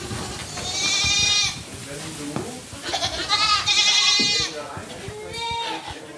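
young goats bleating

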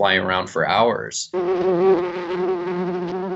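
bumblebee buzzing in flight

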